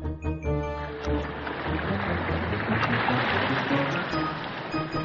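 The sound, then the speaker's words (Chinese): A steady, rushing wash of ocean waves breaking along the shore, loud and continuous, with a faint tonal hum fading out in the first moment. “海浪的声音对小伟来说就像是大海在向他召唤，让他每天都要来海边报到。”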